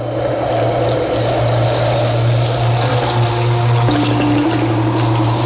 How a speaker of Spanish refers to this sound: Como un listón brillante que serpenteaba en el llano. Era Atoyatl, el río.